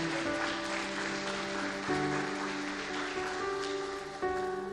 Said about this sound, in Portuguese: Dê uma salva de palmas porque ele é bom.